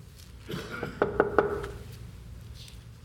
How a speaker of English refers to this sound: I know you heard that knocking. That's to symbolize trying to see.